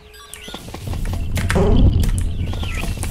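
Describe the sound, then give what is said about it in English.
A video game sound effect of the player's character jumping, a sound also used in the game Crazy Party: a quick springy, rising chirp that swells midway through, set against a busy backdrop of clattering taps and steady game noise. “Like, it's me jumping. Another CP sound, if I can say so.”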